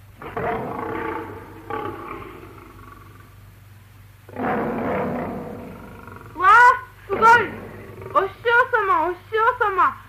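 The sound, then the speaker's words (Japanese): A person voices a lion, a goose turned into a lion by magic, roaring with all its might in three rough, growling bursts, loud, followed by excited voices shouting. “何時ライオン、力の限り吠えるのだ。吠えよう。”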